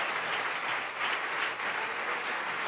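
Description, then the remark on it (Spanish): An audience at a church service claps steadily together for Jesus Christ, a dense, sustained wash of hand claps with no gaps, loud and even throughout with no voices standing out. “Hágame el favor y denle un aplauso fuerte al Rey de Reyes y Señor de Señores.”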